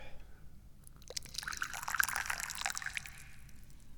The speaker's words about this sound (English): And right now, it's time to pour the tea.